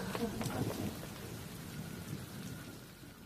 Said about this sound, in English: Oh, gosh, it's starting to rain.